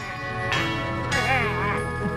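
A tubular bell rings out over sustained, organ-like music, struck twice in quick succession, its bright metallic tone lingering and wavering in pitch as it fades.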